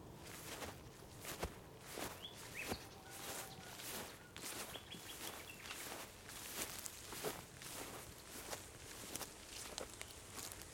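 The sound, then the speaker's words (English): Steady footsteps crunch along outdoors at an even walking pace as someone walks to a dawn chorus recording spot, each step crisp, over a soft, continuous background hiss with faint high chirps now and then. “Not wanting to be late to my Dawn Chorus destination, I settle for a 5-minute recording and continue walking.”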